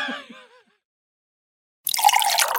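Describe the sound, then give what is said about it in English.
A short wavering vocal sound, then a pause, followed by a steady hiss of water being poured that continues to the end. “Would you like still or sparkling water”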